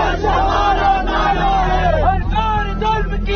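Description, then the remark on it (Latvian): A large crowd gathered outside a prison in India before an execution chants slogans, many voices shouting together in a loud, continuous roar with rising and falling yells over a dense babble. “Cilvēki skandēja dažādus saukļus un rokās turēja plakātus.”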